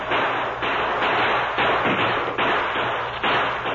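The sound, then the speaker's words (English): Rifles fire in a rapid, overlapping volley, loud sharp cracks repeating every half second or so over a steady rumble, with no voices, as men open fire toward attacking Indians to hold them back. “Have the men fire toward them to keep them back.”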